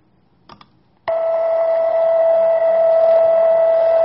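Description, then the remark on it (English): A millisecond pulsar's radio pulses, from a pulsar with a 1.5-millisecond spin period rotating 642 times per second, sped into a steady, buzzy musical tone with rich overtones, start abruptly after two faint clicks and hold loud and even to the end. “This one has a spin period of 1.5 milliseconds, which means it's rotating 642 times per second.”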